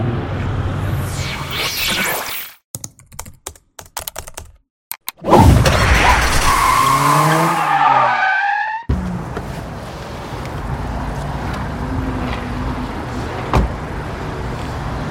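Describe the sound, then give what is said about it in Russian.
A new Uber car's engine revs up loudly through rising gears, then settles into a steady rush of road noise as it speeds along to its destination, after a few brief mechanical clunks and moments of near silence. “Убер мощно домчал до места.”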